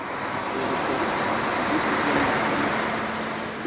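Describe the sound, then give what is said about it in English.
Continuous engine roar from cars and motorcycles pulling in and out of packed parking lots and cog railway trains pulling away off a mountaintop summit, a steady low hum with no distinct chugging beat, fairly loud, with no one talking. “Cars and motorcycles pull in and out of packed parking lots, and Cog railway trains chug away off the mountaintop.”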